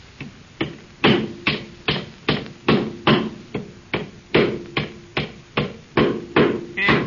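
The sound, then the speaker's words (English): A hammer pounds nails into a board while a little doghouse is being built, in a steady, rapid series of sharp strikes, about two per second, each with a brief woody ring. “Now get your skinny leg in that board and hold it while they're driving them nails.”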